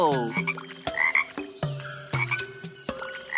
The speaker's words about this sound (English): Look! A family of frogs are hopping from one lily pad to the other!